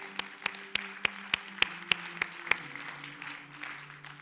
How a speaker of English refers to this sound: And I just think it would be appropriate to take a moment and clap our hands and thank God for the people that have caused you to be in this room here today.